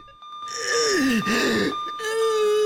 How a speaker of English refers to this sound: clutches his chest and his breathing becomes labored again. Grimacing with pain, he tries to reach a call button.